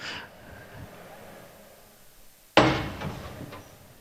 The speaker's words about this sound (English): This was an ethical hack. I had permission to open the door.